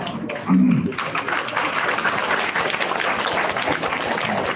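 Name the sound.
audience applause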